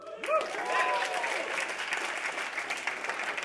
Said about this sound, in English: And I finished it and I looked at my time and it was, ladies and gentlemen, I want to clap after this, okay? It was 15 minutes faster than anything I'd ever done before.